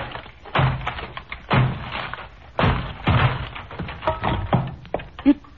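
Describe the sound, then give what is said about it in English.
A door is being battered down to reach Dr. Jekyll: five or six heavy, booming blows land at uneven intervals, each with a splintering crash, and no voices are heard. “We'll have to break down the door.”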